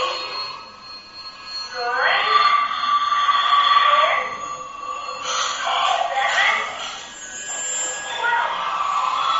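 A metro train, train number 12, pulls into a station, with high ringing, chime-like tones rising and fading in a few waves over a steady rumbling hum, moderately loud.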